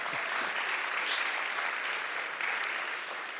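Steady applause from a crowd, a dense wash of many hands clapping at once, holding an even loudness for several seconds with no voices standing out.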